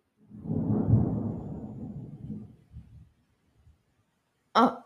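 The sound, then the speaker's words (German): A low, rolling rumble of thunder swells and slowly fades over a couple of seconds, followed after a quiet pause by a brief, sharp burst of noise. “Erstmal Blitz.”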